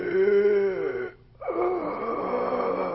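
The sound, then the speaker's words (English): A voice imitates labored breathing through an obstructed airway: two strained, wheezy rasping breaths, fairly loud, separated by a brief pause. “Labored breathing, also called obstructed breathing. This is when you're trying to breathe through an obstructed airway.”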